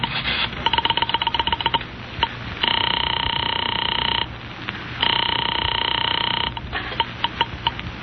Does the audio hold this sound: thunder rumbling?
no